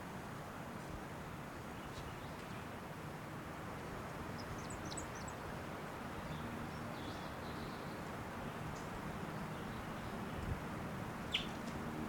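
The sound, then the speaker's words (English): A few faint, high, brief bird calls chirp sporadically over a steady low rumbling background noise, with no voices present. The calls are the flight calls of a female wild bird. “Wild bird, that might be the male in the back, but those flight calls were the female.”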